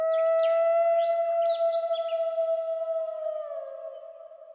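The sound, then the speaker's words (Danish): A single long, steady wolf howl holds one pitch for several seconds and slowly fades, with a few faint bird chirps scattered over its start. No one speaks. “Og så er der nogle former for ulve, nogle ulvestammer, der kan løbe lidt længere eller lige så godt som os.”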